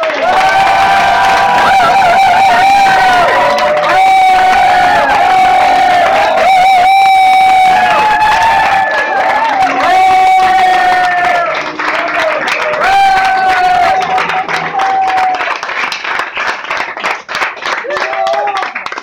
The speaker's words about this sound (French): Pour la première fois, il est applaudi de fort. Je vous demande la plus grande attention, le plus grand soutien et d'applaudir très chaleureusement